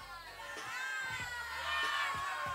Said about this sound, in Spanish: ¡Fuerte ese aplauso!